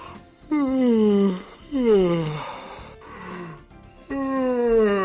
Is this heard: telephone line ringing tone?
no